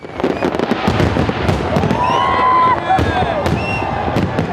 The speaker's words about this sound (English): Sydney brings in the new year with its world-famous fireworks display. More than a million people watch on from dozens of vantage points across the city as more than 9 tonnes of pyrotechnics light up the sky.